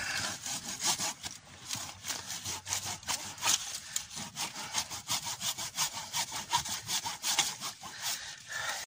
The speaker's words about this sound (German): Profi nimmt natürlich die Bügelsäge mit einem Metallsägeblatt.